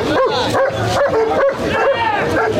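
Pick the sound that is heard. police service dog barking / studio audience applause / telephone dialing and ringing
police service dog barking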